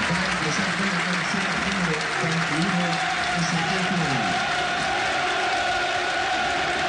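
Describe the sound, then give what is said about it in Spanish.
A large football stadium crowd applauds steadily as players Castro and Amondaray are substituted off during a match, a dense roar of clapping and cheering with rising chant-like shouts, continuous and loud throughout. “Ahí van los cambios y los aplausos para Castro y para Mikel.”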